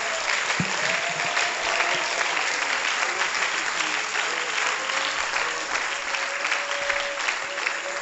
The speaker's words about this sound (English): God, we give you the praise and the glory. Let's give God a hand clap of praise.